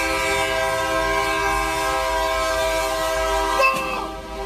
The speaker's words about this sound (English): If you only have the audio, well, you just hear the audio of the train colliding with the truck. Fucking land on the horn, telling this motherfucker to get out of the way. That motherfucker is stuck, son.